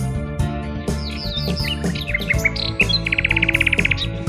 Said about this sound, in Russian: Напевную послушаю я песню соловья, и может что соловушка подскажет для меня.